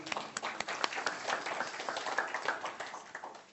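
A crowd applauds with dense, steady clapping that runs the whole way through, individual claps popping out here and there, fairly even in loudness and easing slightly toward the end.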